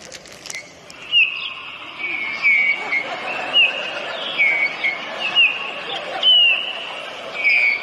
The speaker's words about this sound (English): Listen to the birds.